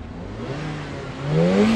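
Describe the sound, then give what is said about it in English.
A sports car engine revs up in a car park, its pitch climbing steadily over a low rumbling idle before surging louder near the end, with no voices present. “Revving up in the car park”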